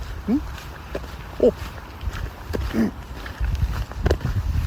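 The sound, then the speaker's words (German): A small dog gives a few short, high whines or yips spaced a second or so apart, outdoors in the morning, over a low outdoor rumble and faint shuffling. “was sagst du, du kleiner Köter?”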